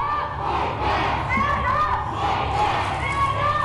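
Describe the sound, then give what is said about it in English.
A large protest crowd in Salt Lake City shouts and chants together that they will stand up and fight back, in a dense, continuous, loud roar of overlapping voices with rising and falling vocal tones throughout. “The group chanted that they were going to stand up and fight back as they plastered the street, sidewalk, and the building with plenty of red paint.”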